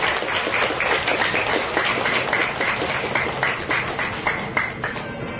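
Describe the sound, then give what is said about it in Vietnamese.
A crowd of Buddhist followers at Giác Ngộ Pagoda applauds steadily to praise the merits of supporters, dense overlapping claps forming a continuous wash of sound at an even, fairly loud level for the whole stretch, with no one speaking. “Và xin quý vị hãy nhiệt lên trên một tràng vỗ tay thật dài để tán dương công đức của tất cả.”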